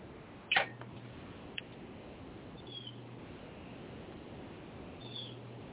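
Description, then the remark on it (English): Backyard birdsong, with one sharp chirp near the start followed by a few fainter calls over a steady background hiss. No one speaks. “Who has pretty birds in their back? It sounds beautiful.”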